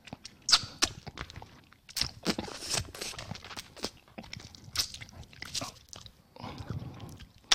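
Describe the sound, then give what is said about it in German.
Crisp crunching and biting on a hard candy lollipop, with repeated sharp cracks and chewing sounds in an irregular rhythm, loud, with no talking. “Wir müssen mal irgendwann eine Folge machen, wo wir einfach nur Viertelstunde lang nur lutschen, knuspern, knabbern und nichts sagen.”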